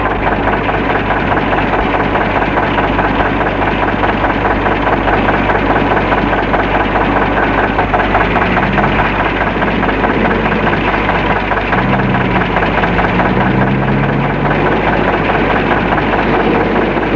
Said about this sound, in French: Le mari, sans rentrer dans le camion, en restant sur le marche-pied de devant, prend le volant et met en marche le camion.